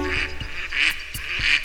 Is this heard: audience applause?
no